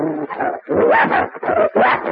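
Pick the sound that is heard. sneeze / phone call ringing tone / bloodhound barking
bloodhound barking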